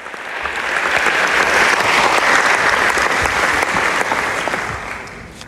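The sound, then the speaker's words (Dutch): Loud, dense applause from a large crowd greeting performance artist Marina Abramović as she walks onto the stage, swelling in over the first second, holding steady as a thunderous wash of clapping, then tapering off near the end. “En ze werd echt onthaald als een rockstar. Daverend applaus.”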